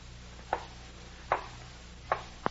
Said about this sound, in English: With my earthenware jug, I knocked against the wall where the sound came. Each time I knocked, the knocks were repeated on the other side of the wall.